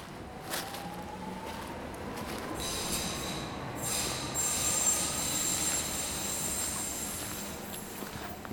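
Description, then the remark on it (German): A steady rumble of a train running along the rails, heard from inside the train, with high metallic wheel squeals and faint tonal whines drifting over the continuous rolling noise; no one speaks. “Im Zug merke ich, dass ich trotz der nur 15 Kilometer doch ganz schön müde bin.”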